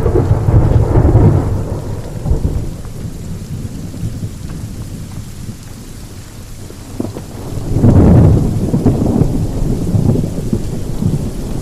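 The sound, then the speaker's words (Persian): Steady rain pours down while low, heavy rumbles of thunder roll through, swelling loudly near the start and again about two-thirds in, with no voices present. “بارون گرفتی بریم تو.”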